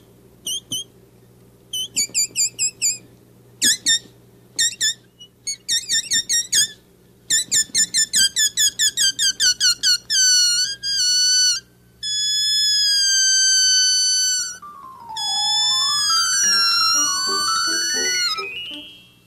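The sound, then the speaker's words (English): A rubber balloon squeals as air is let out through its stretched neck to play a little music: a run of short high chirps speeding into rapid bursts, then long wavering whines that bend and slide in pitch, loud and wordless. “Yeah, sometimes I like to play a little music with a balloon.”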